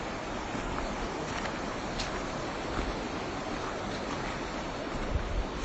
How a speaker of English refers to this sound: It's quite cool now because I'm really, well, as you can hear, I'm right down by the river, and there are hills on either side